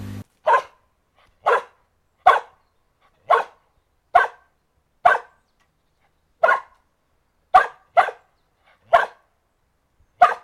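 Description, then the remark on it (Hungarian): A dog barks about a dozen times, sharp single barks at a steady, insistent pace with short silences between, clear, with no talking, asking for a ball its owner holds above it out of reach. “Ugye itt a gazda egy labdát tart a kutya fölé, úgyhogy az nem tudja elérni.”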